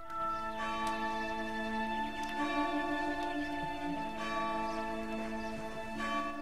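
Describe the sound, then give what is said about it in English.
A church bell rings steadily, its strikes overlapping into a rich, sustained metallic drone with lingering harmonics. The tone is fairly loud and continuous, with no voices present. “Hearing the church bell, he moves across to the window.”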